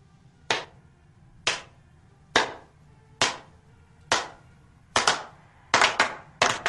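A crowd claps together in a steady beat, about one sharp clap per second, then speeds up with a few ragged, doubled claps toward the end over a low background rumble.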